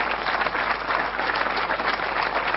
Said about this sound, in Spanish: Un gran aplauso para Gabriel Catopodis, claro que sí.